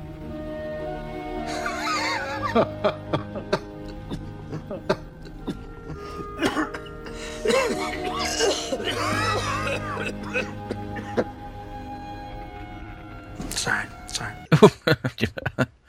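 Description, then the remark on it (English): Two people cough back and forth in short, rough bursts with throat-clearing between them. The coughing is irregular, growing sharper and louder toward the end. “mutual coughing.”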